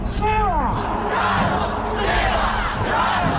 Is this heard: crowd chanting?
yes